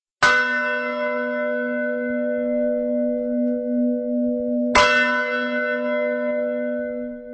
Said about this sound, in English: Sounds of bells echo across the town of Sázava from the lofty Gothic bell tower. For almost 1,000 years, the bells have been a source of local pride.